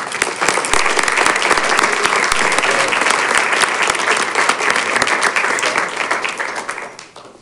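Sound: applause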